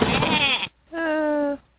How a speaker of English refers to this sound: Wait, is that a... goat? Goats are a great gift, but maybe not for her.